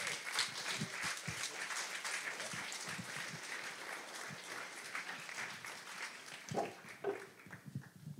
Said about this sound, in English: Ladies and gentlemen, please join me in giving a warm round of applause to … and Nathan Myhrvold.